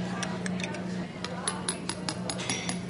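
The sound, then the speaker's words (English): A spoon stirs a cup of water fizzing with Alka-Seltzer, clinking against the sides in quick, irregular taps over a steady bubbling hiss and a faint low hum. “Now I'm going to put in a spoon of Alka-Seltzer now and stir it up”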